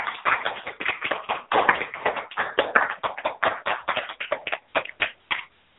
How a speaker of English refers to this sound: So let's give ourselves a hand clap.